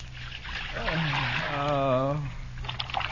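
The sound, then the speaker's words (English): Hot water pours steadily into a basin for soaking feet, a gushing splash whose hollow tone climbs in pitch as the vessel fills, lasting a couple of seconds before tapering off. “Pour some hot water in this basin so I can soak my feet.”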